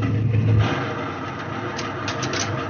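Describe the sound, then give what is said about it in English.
Steady, droning propeller engines of a Catalina flying boat hum at a moderate level throughout as it descends with wheels retracted and wing floats lowered, with a deep low tone that is strongest at first, then a continuous even rumble; no voices. “A Catalina flying boat dropped out of the sky. Her wheels retracted. Her wing floats lowered.”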